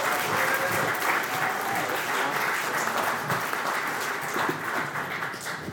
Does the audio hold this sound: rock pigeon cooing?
no